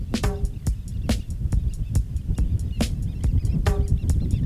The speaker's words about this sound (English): I almost don't want to talk over it, you know, it's just so nice. Birds are talking to me.